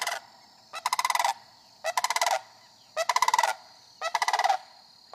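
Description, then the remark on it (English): The first sandhill crane of spring calls alone while flying over a house in southern Dane County, in loud, rolling, rattling bugles, four bursts of rapid pulsed trumpeting, each under a second, repeating at a steady rhythm with short pauses between. “I heard and then saw the first sandhill crane of spring.”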